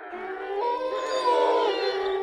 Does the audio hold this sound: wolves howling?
yes